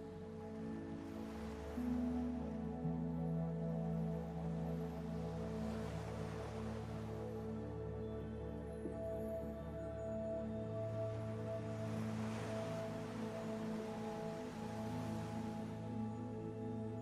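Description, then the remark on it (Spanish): Gentle ocean waves wash ashore in slow swells, rising and receding about twice, beneath a steady, droning musical pad; no one speaks. “Deja que las olas del mar te relajen, que el ritmo de esta marea mece tu cuerpo.”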